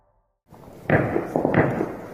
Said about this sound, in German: Tja, so klingt die Flugabwehr. Ziemlich gespenstische Geräusche. Die Kanonen schießen in den Himmel über der afghanischen Hauptstadt Kabul, denn die pakistanische Air Force kreist mit ihren Jets über der Stadt.